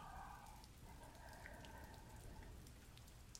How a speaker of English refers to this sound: I'm watching the way the rain rolls down my window, just sort of zoning out.